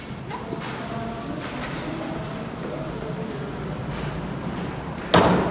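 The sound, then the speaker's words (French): A door closes with a sharp, loud thump near the end, after several seconds of busy ambient noise and faint murmuring voices in the background. “Allez-y, allez-y, ah ben je passe et je vous tiens la porte.”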